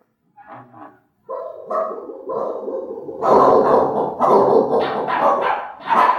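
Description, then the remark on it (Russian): Two dogs, a giant one and a bandy-legged snub-nosed one, bark and yap repeatedly, starting with a few short yips and building into loud, overlapping, agitated barking that continues to the end. “Собака-великан И кривоногый курносый пес, не оглядываясь, удирали по лестнице.”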